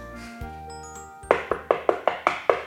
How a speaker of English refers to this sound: Who is it? Who's knocking at the door?